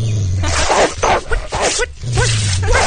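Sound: dog attacking and biting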